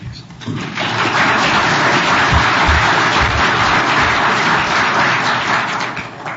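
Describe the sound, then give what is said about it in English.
An audience claps for a visiting minister welcomed back to teach, a dense wash of many hands that swells after a brief quiet start and stays loud and even for several seconds, with no talking over it. “I'm not really into this clapping.”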